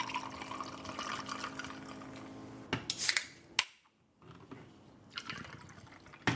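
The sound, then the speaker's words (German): An after-work evening drink is poured into a glass at 7 pm in a steady trickling stream, followed by a couple of sharp clinks, a brief silence, then more splashing liquid. No one speaks. “Ich mache mir mal einen Feierabenddrink.”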